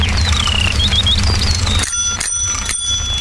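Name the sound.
bicycle bell ringing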